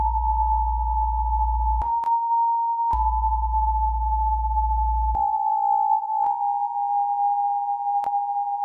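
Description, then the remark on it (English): A steady, pure sine tone holds on a high B flat fundamental throughout, while a deep low drone switches on and off beneath it, with soft clicks marking each new segment; further sine waves are generated as smaller segments of that B flat, each segment a different note. “And then it sends out a series of other sine waves that are generated as smaller segments of that B flat.”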